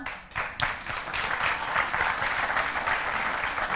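A crowd breaks into steady, sustained applause, many hands clapping in a dense, even patter that holds at a fairly loud level throughout, with no voices standing out.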